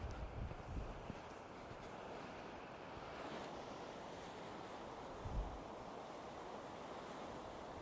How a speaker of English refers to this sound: Just love the sound of the waves, don't you?